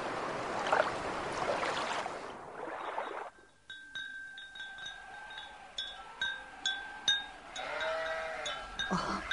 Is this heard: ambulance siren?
no